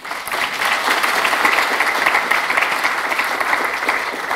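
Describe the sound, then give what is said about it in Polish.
Steady audience applause at a conference, thanking the reception and registration staff, a dense wash of many hands clapping at an even level throughout, with no voices standing out above it. “Serdecznie dziękujemy. Oklaski proszę.”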